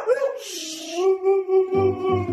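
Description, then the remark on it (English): Manson, a Siberian husky with a gray coat and blue eyes, lets out one long, loud howl at home that slides upward, then holds a steady, bright pitch, turning rougher and more growly toward the end. “So when he's yelling, he's kind of like, woo, like really loud, like throughout the whole house.”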